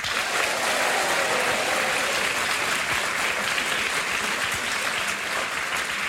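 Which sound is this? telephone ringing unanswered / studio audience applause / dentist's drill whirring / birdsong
studio audience applause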